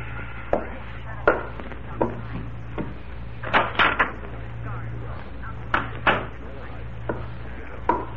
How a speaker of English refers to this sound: When you walk into this house, Judd, close the door quietly. Now go back and do it. I tell you, we... The door, Judd. Quietly.